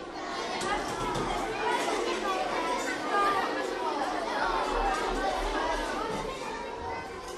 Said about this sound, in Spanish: Después de unos pasitititititos, llegas al jardín de niños. Elenita lo sabe, porque se escuchan a lo lejos las voces y los gritos de sus compañeros.